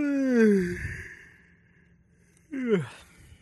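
A person yawns up close, a long voiced yawn sliding down in pitch and trailing into a breathy exhale, followed by a shorter, groaning second yawn.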